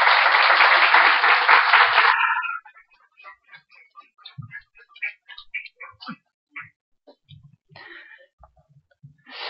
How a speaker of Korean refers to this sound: 우리 오늘 선교사님도 처음 저희 교회 오셨기 때문에 또 환영하는 의미로 올라오실 때 우리 박수를 한번 환영하겠습니다. 우리 선교사님 박수로 환영하겠습니다.